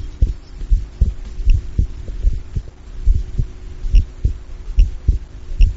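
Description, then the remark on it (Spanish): A steady heartbeat of a mountaineer at 7,000 metres altitude in the Himalaya thumps in low, muffled double beats, repeating roughly once per second over a faint electronic hum, with no voices present. It is captured in real time at Hospital General Reina Sofía in Murcia. “Sí, se trata del latido de un corazón, pero producido por un alpinista situado a 7.000 metros de altitud en el Himalaya y captado en tiempo real en el Hospital General Reina Sofía de Murcia.”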